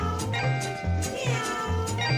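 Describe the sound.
Bright electric guitar slides up and down in wailing glissandos that mimic a yowling cat, several bending cries over a steady bass pulse and busy band backing, with no voices.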